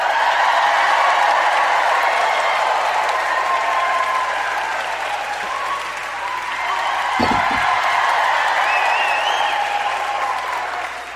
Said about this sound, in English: The town hall is shaking with the applause of the people.